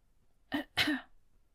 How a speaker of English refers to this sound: There was a tiny sound from a few feet behind her, something like a polite cough.